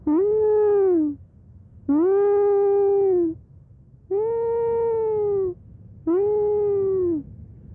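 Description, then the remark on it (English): A person imitates a short-tailed monkey's call, as Penan do to signal a brother or friend seen hunting, four times: drawn-out, evenly spaced wailing hoots, each about a second long, with a slight rise then a gentle fall in pitch, loud and without speech. “So you don't call him, but then you imitate the voice of a short-tailed monkey, for example.”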